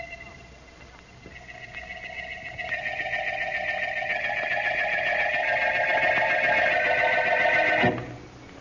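An electric doorbell at a janitor's building rings in one long, unbroken buzzing peal for about six seconds, holding a steady tone that swells slightly louder before cutting off abruptly.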